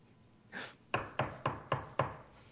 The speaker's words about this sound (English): Knocked on the door.